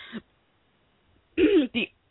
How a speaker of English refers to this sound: Wow, I'm choking, coughing, all kind of craziness going on.